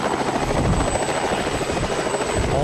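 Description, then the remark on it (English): A helicopter flies with a loud, steady rotor drone, its low blades thumping rapidly under a broad roar of engine noise, with no voices throughout. “He claims to reach 6 million followers with his satellite TV network, numerous publications, private jet, and personal helicopter.”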